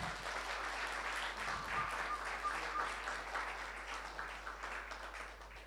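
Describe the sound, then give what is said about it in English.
A room full of people applauds the mothers steadily, a dense wash of many hands clapping at once, sustained for several seconds before gently tapering off. “I give these ladies a wonderful clap.”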